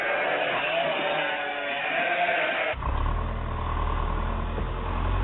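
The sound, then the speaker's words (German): A cluster of bleating sheep gives way abruptly to a tractor engine chugging steadily with a deep, loud rumble that continues to the end. “Zusammentreiben von Schafen, Schmiede, Sägen, Traktor und Mietpresse.”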